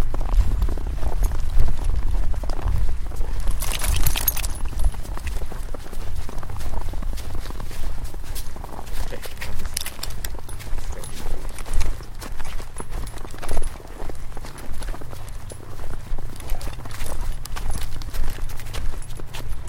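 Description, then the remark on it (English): Steady footsteps crunch outdoors through crunchy snow, a continuous rhythmic scrunch of boots with a low rumble underneath and no talking. “A bit of crunching footsteps.”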